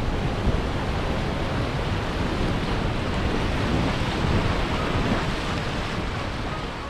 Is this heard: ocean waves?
yes